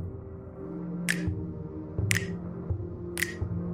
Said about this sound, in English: It has the best beat, and I can see that others are clapping or snapping fingers because snapping fingers is easy to do.